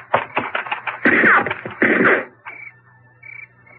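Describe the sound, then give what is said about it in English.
A rapid volley of sharp gunshots followed by two louder, heavier blasts, loud, then a faint lingering ringing tone as the firing stops; shots fired in the countryside at people lit up by light from a door. “Rotten shooting. That light from the door made a perfect target.”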